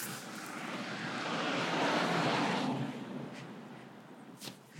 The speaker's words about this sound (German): Achtung, Auto.